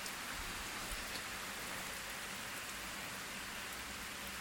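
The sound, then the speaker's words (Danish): Steady rain falls continuously in Munkebo on a windy July day of about 15 degrees, a dense hiss of drops pattering on surfaces with a low rumble of wind underneath, even and unbroken throughout with no voices. “Ikke alene regner det, men det blæser også dejligt.”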